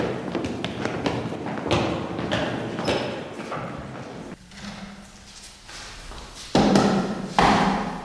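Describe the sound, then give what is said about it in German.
A chair scrapes and bumps along a hard floor, with repeated knocks and thuds, a grinding drag in the middle, then louder scraping bursts near the end. “Kannst du dir dann auch noch einen Stuhl holen? Heute am besten noch irgendwie? Und, kannst du ihn vielleicht auch heben wie ein normaler Mensch?”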